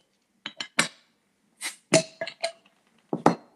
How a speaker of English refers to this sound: So I'm going to go ahead and crack open my cider, and we can say cheers and have our first sip.